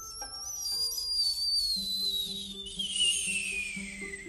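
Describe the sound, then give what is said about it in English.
A shrill, high-pitched whistling screech glides slowly downward in pitch for several seconds, joined by a second thin tone partway through, over a faint low hum with no talking. “There was like a whistling, like a screaming sound.”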